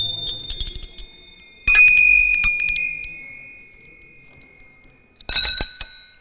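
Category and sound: signal or alarm, bicycle bell ringing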